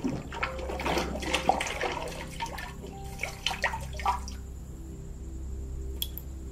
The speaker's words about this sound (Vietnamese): Trần Khánh Dư nhìn chất nhựa sóng sánh chảy long tong xuống dưới chum. Tôi đã thu mua được một số loại nhựa cây và pha trộn chúng lại để ra được loại dầu này. Chúng rất bắt lửa, và một khi đã bắt lửa rồi thì không thể dập tắt được.